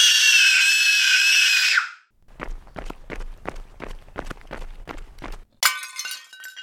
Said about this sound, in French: La colère de Freddy redouble. Le petit Douni hurle de plus en plus fort et commence à se rouler par terre en tapant des pieds et des poings.